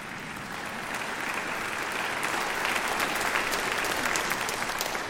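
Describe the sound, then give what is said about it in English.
An audience breaks into sustained applause, a dense wash of many hands clapping that swells slightly after the first second and holds steady at a moderate level, with no voices rising above it. “Yeah, go ahead and clap.”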